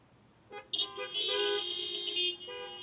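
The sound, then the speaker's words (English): Several car horns honk together as people in their cars answer a question put to them, a short blast followed by a long overlapping chorus of sustained, bright tones that cuts off abruptly, then a faint lingering tone remains. “You can honk for this one, all right?”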